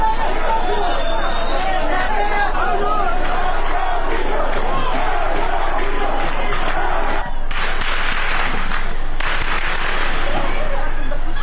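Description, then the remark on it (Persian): Heavy, sustained gunfire by security agents at protesters gathered in front of the governor's office in Mahabad crackles in rapid, overlapping bursts over a loud, agitated crowd, with two harsher blasts of noise near the end and no letup throughout. “از سوی دیگر تصاویر دریافتی از مهاباد در روز گذشته نشان می‌دهد که با تجمع تظاهرکنندگان در مقابل فرمانداری شهر با تیراندازی شدید و ممتد ماموران به سمت معترضان مواجه شده است.”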